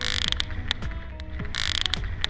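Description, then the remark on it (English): Sperm whale clicks, made by the whales pushing air through their bulbous, resonant heads and used as sonar: a series of sharp, dry clicks arriving in loose, uneven bursts, some close together and others spaced apart, over a steady hissing background, with no voices. “These colossal beasts, which grow around 68 feet long, push air through their bulbous, resonant heads, creating clicks.”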